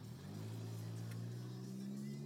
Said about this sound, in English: That humming is the car. Yeah, sorry about that, guys. It's a muffler. It kind of came with the car, but I kind of like it.